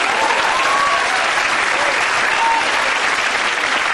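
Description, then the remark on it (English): Sustained, loud applause from a large audience, a dense steady wash of clapping that stays at full strength for the whole stretch, with faint whoops and cheers mixed in. “You guys are good, but you cut into my time when you clap that long.”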